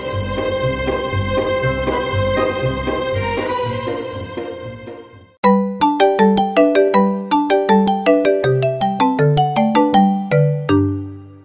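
A melodic electronic telephone ringtone plays loudly on its own: a sustained chiming chord first, then a bright plucked tune of quick repeating notes, with no voices.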